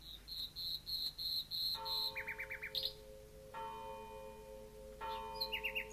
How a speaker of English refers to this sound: Dratted bird!